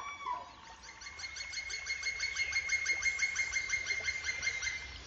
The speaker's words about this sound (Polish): Tam cik-cik było takie, to dzięcioł pstryduży.